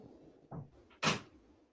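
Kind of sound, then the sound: household object, door being closed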